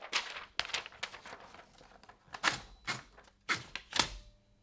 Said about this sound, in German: Sonate für eine ältere Schreibmaschine.